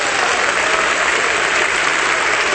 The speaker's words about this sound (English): So I think we should just rejoice now. I think it's just clap your hands, give God glory.